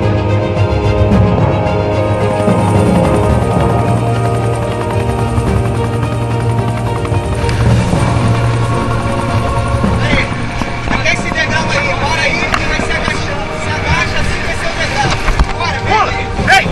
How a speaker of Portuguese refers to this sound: O barco tá pegando onda de lado. Vai ter que ter cuidado, hein?